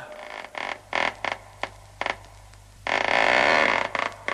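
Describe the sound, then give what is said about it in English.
A door creaks open: a few short, scraping creaks, then one long, drawn-out groan of the hinges, fairly loud, with no one speaking. “I opened your door”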